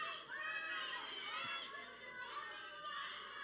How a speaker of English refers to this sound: Oh, you guys are yelling.